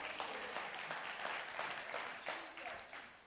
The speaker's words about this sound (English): Can we clap our hands for the word this morning?